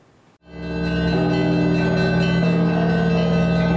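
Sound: church bells ringing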